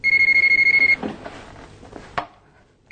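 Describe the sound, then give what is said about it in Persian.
A telephone rings with a loud electronic trill, rapidly pulsing for about a second before cutting off, followed by a few soft clunks and handling noises. “وای خدای من تلفن خونه رو برم.”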